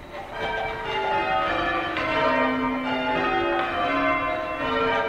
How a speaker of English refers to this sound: Here's how it works. A bunch of people stand around in a circle, and each one holds a rope that connects to a bell up in the tower. They ring their bells one after another, making a waterfall of sound.